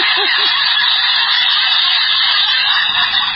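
Loud, raspy goose honking from a plastic toy sound machine with buttons, a harsh, tinny burst of noisy honks running steadily for a few seconds with no one talking over it.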